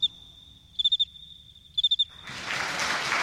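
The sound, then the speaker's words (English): A male cricket sings by stridulating, raising its front wings and rubbing them together so the scraper of one strokes the file of the other: a high, steady trill punctuated by two quick bursts of four sharp chirps, clear, before a broad hissing wash of noise swells up and drowns it out. “The cricket raises his front wings and, with a movement called stridulating, rubs the two wings together.”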